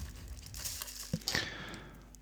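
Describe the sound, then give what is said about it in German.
About half a teaspoon of powder being poured onto a plate: a quiet crinkly rustle with a couple of brief sharp ticks midway, followed by a soft, fading hiss with no voices. “Ja, ich packe gerade ein bisschen Pulver auf meinen Teller hier.”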